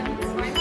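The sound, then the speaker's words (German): The red push-button telephone in a hospital emergency department rings with a rapid, pulsing electronic trill, loud, repeating several times in quick succession with no voices over it. “Das, was ihr hier hört, ist das rote Telefon.”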